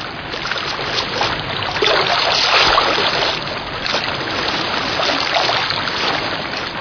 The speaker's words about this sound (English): His directions were perfect, and soon I was wading through icy water that only the day before had been snow in the Himalayas.